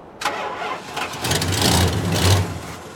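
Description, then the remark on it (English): A car engine cranks over and over as the ignition key is turned, trying to start, with a rapid, rhythmic churning that grows louder and heavier toward the end. It is loud, with no one speaking. “You've got power going to the engine, at least.”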